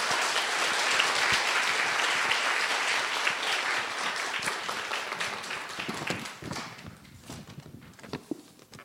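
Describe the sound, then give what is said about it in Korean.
A large church audience in Gwacheon claps steadily in a sustained wave of applause welcoming a church elder coming forward to speak, then gradually thins out into scattered, fading claps toward the end. “우리 장로님 나오실 때 우리 큰 박수로 장로님 환영하며 모시겠습니다.”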